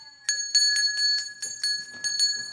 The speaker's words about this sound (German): Die Engelslehrerin läutet soeben die Glocke.